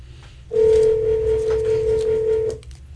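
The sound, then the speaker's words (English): A telephone call from a WCNO radio show ringing on the line: one steady electronic ringback tone lasting about two seconds, fairly loud and clear over a low background rumble, with no one talking. “All right, let's see if we can get Alan on the phone.”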